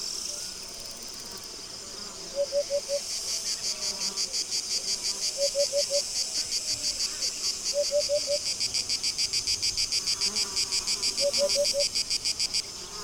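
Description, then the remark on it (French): Cicadas drone in a dense, pulsing chorus high in pitch, steady and fairly loud throughout, with brief lower chirping bursts recurring every few seconds and no voices, on a hot, dry summer afternoon in August. “Cette sensation de sécheresse est soulignée par l'habituelle symphonie estivale du chant des cigales.”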